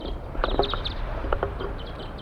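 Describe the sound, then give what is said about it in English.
A flock of wild birds calls from the top of a pine tree above a bird-catching net, short, scattered high-pitched chirps, several overlapping in quick bursts over a steady low rumble of background noise. “The flock is calling from the treetops.”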